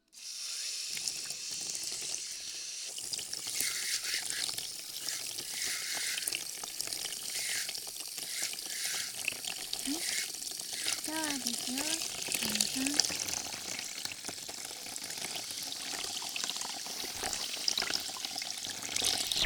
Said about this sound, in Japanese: かけますよ。で、シャワーですね。